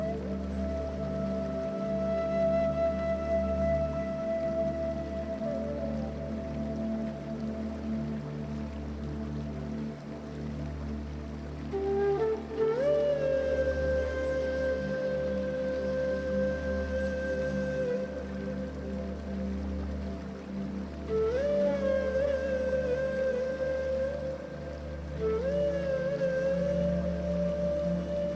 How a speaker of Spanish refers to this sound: La brisa acaricia tu piel mientras el sonido de la cascada crea una melodía que calma tus pensamientos.